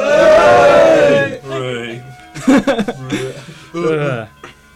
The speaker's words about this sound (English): Also like to thank the very, very hard-working members of the news team. We have a big cheer for them.